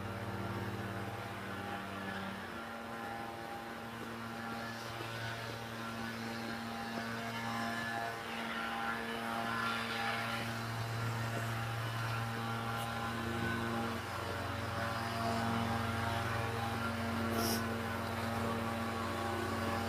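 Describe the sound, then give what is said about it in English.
Steady engine drone from a couple of leaf blowers running outside, a continuous low whine with strong humming tones that shift slightly in pitch, filling the whole clip with no speech. “These guys with their leaf blowers, there's a couple of them.”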